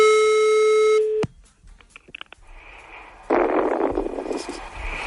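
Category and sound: signal or alarm, telephone answering machine tones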